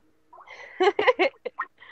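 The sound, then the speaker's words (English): A cell phone rings with an incoming call, a bright, chirpy, warbling tone: a rising lead-in, three strong bursts, then a few shorter blips, with no talking. “I'm gonna answer it on my cell phone.”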